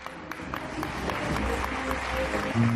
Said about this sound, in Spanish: Y más aplausos cuando desde una ventana lanzan una sábana.